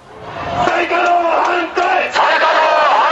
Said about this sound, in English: Chanting no to restarting nuclear plants, about 1,000 protesters huddled together in the rain outside the Prime Minister's residence in Tokyo. In post-Fukushima Japan, they want this country to remain nuclear-free.